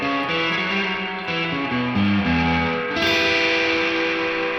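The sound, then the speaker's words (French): Loud, sustained instrumental tones drenched in heavy reverb, turned fully up and applied only to the high frequencies, washing over the bright upper register while the low notes stay comparatively dry and distinct, with no talking. “Tiens, je te mets à fond et j'abuse les aigus, mais pas le grave.”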